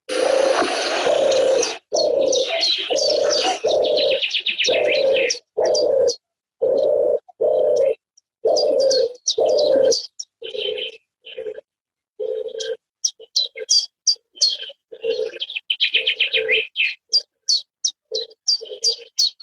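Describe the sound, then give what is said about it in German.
A European turtle dove's soft, rolling purr repeats in steady rhythmic bursts, while a chiffchaff chirps and sings bright high notes over it throughout. “Ich möchte sie jetzt einmal anspielen, ja. Die Turteltaube. Hier kommt sie.”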